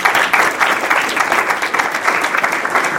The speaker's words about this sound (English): And I don't know if their staff are in here today, but we should give them a big round of applause.